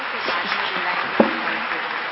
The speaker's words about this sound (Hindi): जोर से ताली बजाएं।